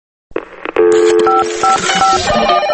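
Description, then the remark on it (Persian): A quick series of electronic telephone tones from the Radio Farda answering machine, several short pitched beeps in a brisk rhythm over a faint hiss, fairly loud, with no voices. “تلفن پیامگیر رادیو فرداست.”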